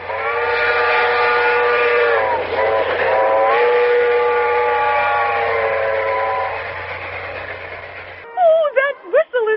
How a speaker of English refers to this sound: Train bearing the President of the United States.